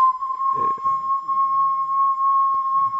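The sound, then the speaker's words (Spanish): A flute made from ancient bones, said to have been played by the inhabitants of a cave, sounds one steady, piercing note, held unbroken for about three seconds, with faint low murmurs and a soft click or two underneath. “Son flautas hechas con huesos milenarios.”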